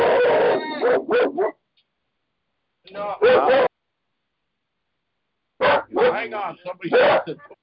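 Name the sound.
dog barking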